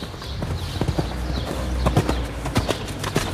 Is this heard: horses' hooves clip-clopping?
yes